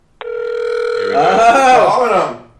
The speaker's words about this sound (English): Are you there? Oh, dialing out. He's not there yet.